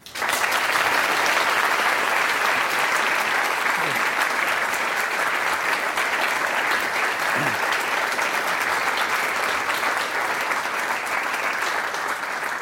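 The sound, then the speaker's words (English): A sustained burst of audience applause as Professor Attia is introduced to give a talk titled A Panoramic View of Mathematics: dense, steady, fairly loud clapping that continues without a break for the whole stretch, with no talking over it. “You're supposed to wait till the end for your applause.”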